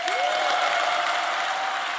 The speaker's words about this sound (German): So wie der Beifall hier klingt, habe ich das Gefühl, das hätte ich früher machen sollen.